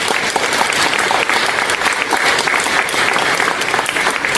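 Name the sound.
audience applauding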